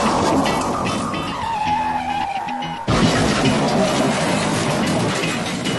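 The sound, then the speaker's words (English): A loud race car skid with a long tire squeal rising over roaring engines, then an abrupt crunching impact near three seconds as one car goes up and over another, followed by a dense, noisy wash of crash and engine roar. “Big trouble. That's the rookie Suarez up and over Regan Smith. The big one out there”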